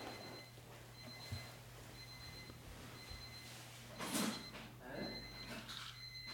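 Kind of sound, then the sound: household object, alarm clock ringing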